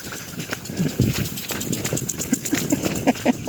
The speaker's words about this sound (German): Ihr hört es vielleicht, da ist ein Rasensprenger so eingestellt, dass man rennen muss, um durchzukommen.